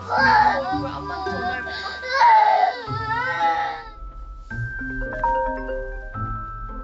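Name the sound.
baby crying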